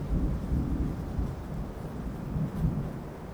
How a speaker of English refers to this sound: Oh, fuck! That was thunder, wasn't it? The forecast said nothing about storms or rain. Okay, that was definitely thunder. I really hope that it skips over us.